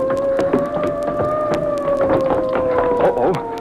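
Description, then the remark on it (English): A loud, sustained police siren wail holds a steady pitch and slowly sags lower over a few seconds, with scattered clicks and rattles underneath and no one speaking. “Police cars come, too.”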